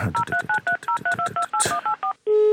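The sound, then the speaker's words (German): A quick run of about a dozen dual-tone keypad beeps as a phone number is dialed, followed by a steady, loud ringing tone that starts and holds. “Es klingelt.”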